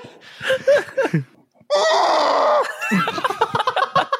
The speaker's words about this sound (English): I scream into the sleeve of my coat. Do it, do it, do it. Let's hear it.